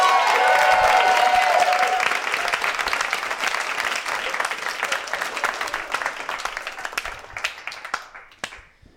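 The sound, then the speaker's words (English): A round of applause from a group marking ten years together, dense clapping with a few cheers at the start, tapering off gradually into scattered individual claps by the end. “A round of applause. 10 years together, everyone.”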